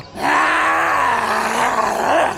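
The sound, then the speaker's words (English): A harsh, raspy, animalistic growl from a human voice as a girl lunges to attack, sustained for about two seconds at steady loudness with a slight wavering pitch, sounding like a snarling zombie. “Within a second, she lunged at me, letting out an animalistic growl.”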